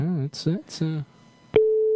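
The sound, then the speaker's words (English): A voice talks briefly, then after a pause an outgoing telephone ringing tone from a call placed live on radio starts: a single steady electronic hum, fairly loud and clear, continuing to the end. “listen, it's ringing.”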